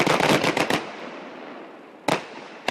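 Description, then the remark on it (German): A rapid volley of sharp fireworks bangs and crackles opens, then a long fading rumble, followed by two more loud isolated bursts near the end. “zu Feuerwerkstönen”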